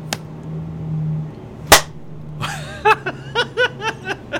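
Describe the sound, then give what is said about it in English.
At a theater, a single sharp hand clap on the count of four cracks out over a low steady hum, followed by a string of short, rhythmic bursts of laughter. “Okay, the same thing. Clap on 4.”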